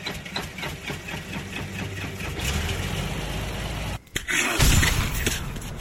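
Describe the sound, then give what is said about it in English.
An engine cranks with a quick, rhythmic chugging, then catches and settles into a steady, low rumbling idle. The idle briefly drops out near the end and resumes loudly. “Go ahead and start her up.”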